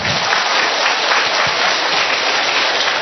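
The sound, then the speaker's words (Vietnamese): Sustained applause from a crowd at a church mass, thanking the children, a dense steady patter of many hands clapping at once, loud and continuous for a few seconds with no voices. “Chúng ta một tràng pháo tay nữa để cảm ơn các bé.”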